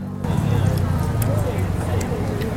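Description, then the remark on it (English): Wet chewing and smacking sounds from someone eating spicy street food famous in Taiwan, with scattered clicky mouth noises over a steady murmur of background chatter from a busy outdoor crowd. “Caitlin's telling me that I eat really audibly.”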